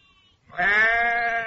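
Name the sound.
sheep bleating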